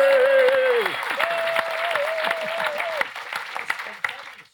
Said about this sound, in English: Round of applause.